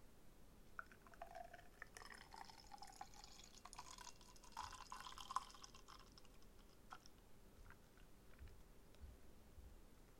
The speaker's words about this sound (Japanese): そう、中にね、ボールが入っていて、それがなんだっけ、クリーミーな泡を作り出す球体のカプセルが入っています。で、これも、専用のグラスがついてます。このギネス専用のグラス。じゃあ、ちょっと入れていきますね。